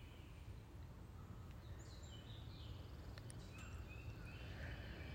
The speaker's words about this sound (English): I'm hearing a lot of different birds. There's the dove, I've heard robins and woodpeckers, I mean, lots and lots.